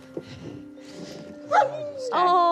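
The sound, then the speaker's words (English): Search dogs, a wilderness air-scent dog and a cadaver dog, let out two short, high whiny yelps about half a second apart, a mix of barking and whimpering, over a low steady hum and faint background voices. “So let's meet the dogs. Can I pet them?”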